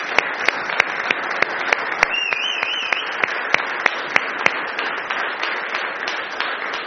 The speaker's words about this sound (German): Und ich denke, wir können ihnen mal einen Applaus geben.